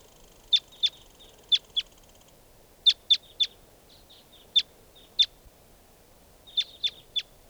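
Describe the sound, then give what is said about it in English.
Wild birds chirp in quick, sharp, high-pitched bursts, several short calls clustered in groups of two to four with brief pauses between, over a faint steady background hiss. “And more wild birds are coming around.”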